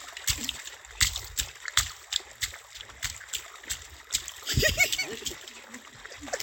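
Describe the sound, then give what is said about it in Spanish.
Feet splash and slosh through shallow water in a quick, steady rhythm of wet slaps as someone plays in the water with their feet, with a brief voice heard partway through. “Normalmente guachapear es jugar con el agua, enredar con ella. Ya habéis oído el sonido que hace con los pies también.”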